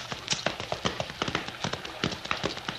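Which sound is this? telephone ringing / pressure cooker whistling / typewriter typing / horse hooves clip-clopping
horse hooves clip-clopping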